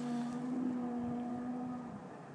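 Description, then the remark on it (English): A steady engine drone from cars driving up and down through a forest, a low hum with a constant pitch that holds level and then eases off slightly toward the end. No voices. “You can hear plenty of cars going up and down the forest.”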